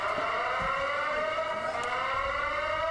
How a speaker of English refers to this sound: That siren's getting to me. Yeah, you can mute it and we can just watch it.